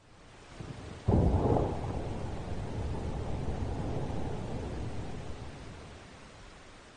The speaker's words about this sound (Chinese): 外面风雨交加，雷声隆隆